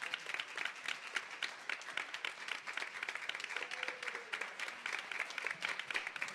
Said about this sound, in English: Give the Lord a hand clap of praise.